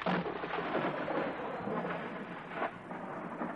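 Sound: thunderclap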